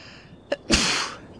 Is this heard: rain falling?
no